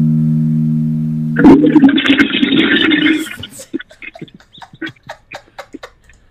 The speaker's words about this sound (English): Flush. Hold on, everybody. This is an E flat. Have a listen one last time. Okay. Flush the toilet.